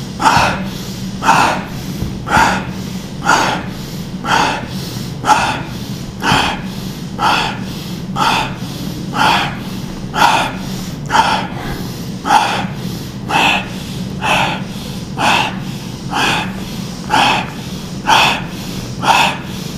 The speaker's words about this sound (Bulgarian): А сега за две минутки влез в ритъма на бастрика, дълбокото дишане, бързото, гръдно, мощно бастрика дишане.